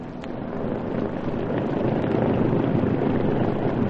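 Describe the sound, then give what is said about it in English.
A steady, throaty motorboat engine, the starboard motor, drones on with a broad wash of churning water noise as the craft veers away from a bank. It holds a constant loud rumble that swells slightly over the few seconds, with no voices. “That's why I'm running the starboard motor.”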